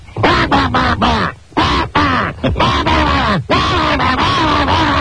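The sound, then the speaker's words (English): A voice imitates the squawking goose calls of hunters during goose season on the Eastern Shore with a loud, rapid string of harsh, nasal honks, each one bending in pitch, tumbling over one another with only brief gaps between bursts. “The madder the guys would get, and the squawking became like...”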